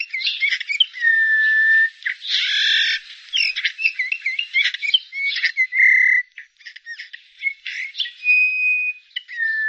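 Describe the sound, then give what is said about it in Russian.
Eurasian bullfinch calls, soft piping whistles mixed with busy chirps and buzzy notes, fairly loud, continuing without pause for about ten seconds with no voices. “Однако этих веселых красногрудых птиц мы видим все реже, и записать голос снегиря тоже редкость.”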